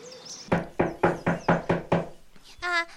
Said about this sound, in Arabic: وهكذا يا أحبائي وصل الأرنب والضفدع إلى بيت القطة وطرق الباب.